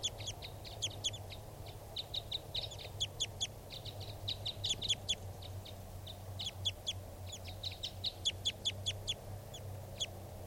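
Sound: male bird calling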